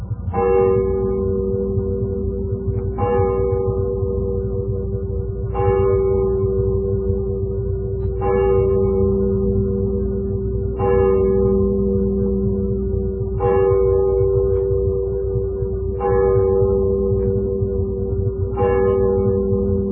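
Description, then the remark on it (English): A church clock bell down in a valley strikes midnight, about eight evenly spaced chimes with a deep, ringing tone that hums and lingers between each stroke. No voices. “And then down in the valley, the church clock began to strike.”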